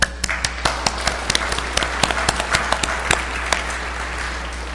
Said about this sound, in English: Why don't we clap our hands?